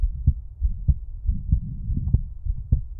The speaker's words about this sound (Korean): 그래, 오늘 뭔가 빨리 뛰네. 심장이 엄청 가깝게 뛰고 있는 것 같아. 최고야. 뭔가 따뜻한 기분인 것 같기도 하고. 심장소리가 뭔가 빠른가 봐. 긴장했나?